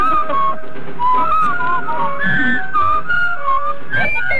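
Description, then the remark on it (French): A person whistles the Colonel Bogey march, a bright, steady melody of short rising and falling notes, loud, with a faint musical backing underneath and no talking. “Voilà, c'était Colonel Boguet.”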